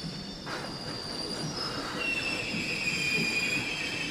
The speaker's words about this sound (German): Ah, da ist ja schon der Zug. So, Wagen Nummer 14.